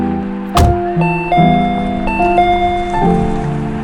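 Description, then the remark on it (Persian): A door's doorbell is pressed: a sharp click, then a bright electronic chime plays a short stepping melody of several sustained tones, loud, with no talking. “رسیدیم، یادش رو زنگ در رو بزن، ماشین رو پارک کنم بیا.”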